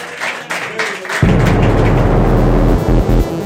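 A crowd claps in a dense, crackling patter, then a heavy low rumble swells in underneath, making the applause louder and fuller until it dips briefly near the end.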